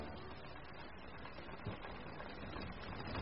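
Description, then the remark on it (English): Smee's sewing machine on the deck of the Jolly Roger at night runs steadily with a continuous mechanical whir and faint rapid clatter, fairly quiet, with no voices. “The only sound on deck is made by Smee at his sewing machine.”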